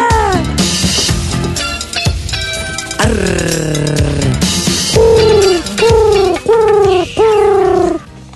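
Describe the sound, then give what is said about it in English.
A loud bird call with a pigeon-like coo, repeated in a series of descending, wavering hoots with short pauses between them, over a rough, hissy background. “Yeah, it does sound like a pigeon.”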